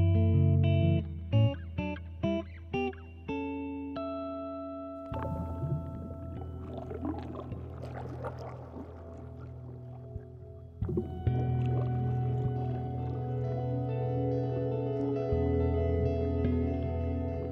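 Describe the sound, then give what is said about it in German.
Murky underwater ambience with bubbling and gurgling, preceded by a few short staccato tones and then settling under sustained, droning low notes. Fairly loud and continuous, with no voices. “Ist das Wasser? Ich spüre es überall. Diese Geräusche. Was blubbert denn da?”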